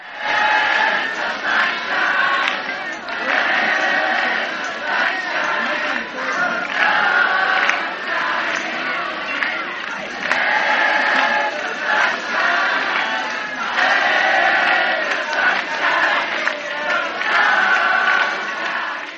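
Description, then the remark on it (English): A large festival crowd of dancing hippies cheers and shouts to the banging of cans, in hard rain and mud on a Sunday afternoon, in a dense, continuous roar for nearly twenty seconds, swelling and dipping slightly but never pausing, loud with no single voice standing out. “Instead of despairing at the discomfort of rain and mud, the crowd rejoiced in its power to resist the weather.”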